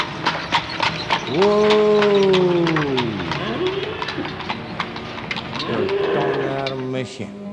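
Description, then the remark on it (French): Two drawn-out, low cow moos sound loud, the first long and bending downward, the second shorter, with steady sharp clicking knocks running underneath the whole time; many cows are around the spot. “On a mes chiens, il y a beaucoup de vaches alentour ici.”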